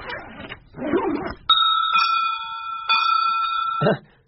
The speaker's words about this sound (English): Bells? Yes, bells. Aren't they lovely?